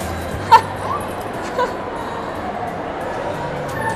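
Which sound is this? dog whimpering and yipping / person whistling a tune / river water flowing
dog whimpering and yipping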